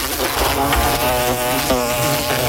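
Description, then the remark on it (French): A loud, steady insect buzz from wasps or hornets, continuous with a wavering drone and harmonic overtones, filling the short moment with no talking. “L'été arrive et les nuisibles aussi. Guêpes, frelons, rongeurs, punaises de lit, cafards.”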